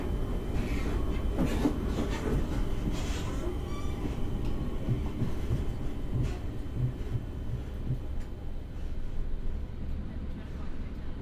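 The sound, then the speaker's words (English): Steady low rumble from inside a moving commuter train full of business people on the commute, with faint rhythmic clatter from the tracks and indistinct voices murmuring in the carriage throughout. “So on the commute, so there's lots of business people on the train, so lots of laptops being open and closed and people tapping away”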